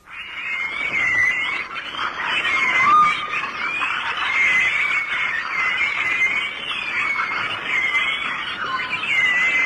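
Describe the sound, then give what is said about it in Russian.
A continuous chorus of high, chirping whistles and squeals from a pilot whale, a whale weighing three tons, underwater, with thin rising and falling tones layered over a steady dense hiss, with no talking. “Другой кит, гринда, несмотря на свой 3-тонный вес, считается канарейкой моря.”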